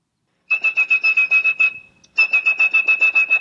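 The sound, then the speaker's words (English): A blind phone phreak whistles calls through the telephone network, in a 1968 NBC Evening News interview. A high, steady whistled tone pulses in quick, even bursts like dialing signals, two runs of rapid beeps separated by a brief pause. It is fairly loud, with no talking. “If you had perfect pitch like blind phone freak …, you could whistle calls through the network.”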